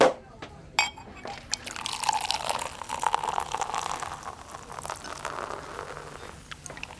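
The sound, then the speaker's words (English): Champagne pours steadily into two glasses with a bright, fizzy hiss and trickling splash, moderately loud, the stream wavering for several seconds before tapering off. “2 glasses of champagne, please.”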